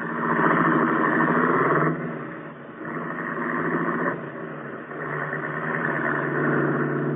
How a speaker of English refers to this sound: Turn the car around and let us go home.